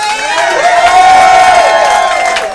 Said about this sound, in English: Come on, a round of applause for